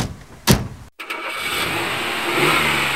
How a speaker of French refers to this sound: Ils mettent la voiture en marche et sortent du garage.